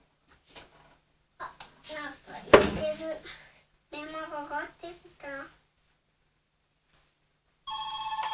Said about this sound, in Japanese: 電話かかってきた。